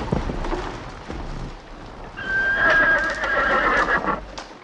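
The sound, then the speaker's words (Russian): A horse gives a loud, drawn-out whinny that rises and wavers over about two seconds, with hooves clattering on the ground beforehand and continuing beneath it, as two riders gallop in on a dark night. No one speaks. “Смотрите, Портос, опять 2 всадника скачут на нас.”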